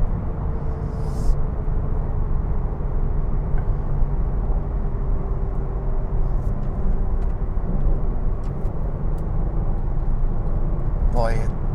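A steady, droning car engine cruising in fourth gear at about 3,000 RPM and 55 miles an hour, with loud, unbroken low road rumble and a faint sustained engine tone running through the whole stretch, heard from inside the vehicle.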